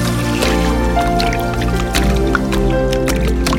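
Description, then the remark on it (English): Water drips and splashes in scattered, irregular bursts layered over a steady, sustained musical drone that fills the background throughout. “Touch it, everyone that hears this sound. Believe in water.”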